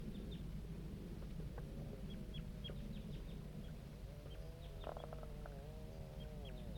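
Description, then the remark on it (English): Juvenile birds calling in response to butterfly 3, including the bird labelled J8: short, high-pitched peeps repeat irregularly throughout, joined midway by a few wavering, warbling lower calls, all over a steady low rumble. “Start recording the juvenile birds responding to butterfly 3.”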